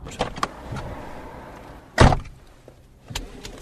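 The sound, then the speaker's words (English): A BBC reporter and a driving examiner climb into a car amid rustling and shuffling, then a car door slams shut with a heavy thud, followed by another quieter door thump a moment later. “Right, we're in the car.”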